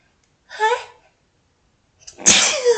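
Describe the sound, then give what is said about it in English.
A loud sneeze preceded by a short breathy intake, then a sharp explosive burst that trails off, with no talking around it. “Make sure you rate us 5 stars for sneezing into your ear twice.”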